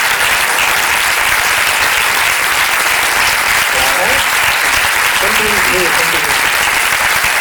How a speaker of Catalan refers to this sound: i m'agradaria que l'equip que està en aquesta zona d'aquí que es posessin drets i també demanaria un aplaudiment per l'equip.